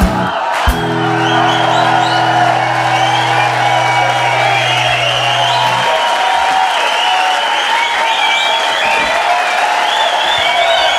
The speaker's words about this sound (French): Voilà, avec plein d'applaudissements bien mérités.